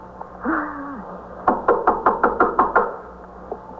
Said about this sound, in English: All right, you better knock on the door. Aren't you supposed to do anything? Knock on the door.